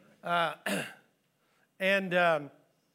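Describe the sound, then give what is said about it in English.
Someone clears their throat with a couple of short, voiced coughs, two quick raspy bursts, a brief pause, then another pair. “Pardon me. I'm going to have everybody coughing before it's all over with.”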